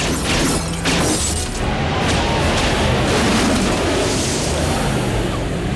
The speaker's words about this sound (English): The entire house explodes just as Lee and John are running down the front hall.